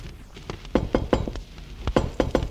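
knocking on a door

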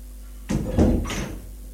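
door opening

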